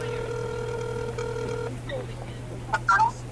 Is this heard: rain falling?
no